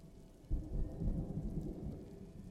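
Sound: rain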